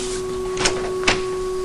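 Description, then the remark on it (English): Two quick mechanical clicks and scrapes as a front door latch is worked and the front door is opened, over a steady low electrical hum. “Slouching his shoulders, he heads to the front door and opens it.”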